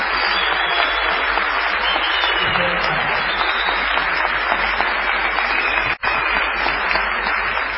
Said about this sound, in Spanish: Aquí estamos en la ciudad de Tucumán, en el Teatro Mercedes Sosa. Vamos a saludar con una ovación